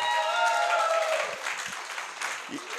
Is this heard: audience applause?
yes